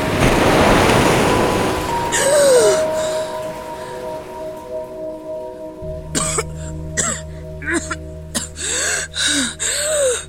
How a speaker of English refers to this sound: She dives, letting the water rush out through the hole, carrying her to the floor below, falling with a yell before finally gasping for air.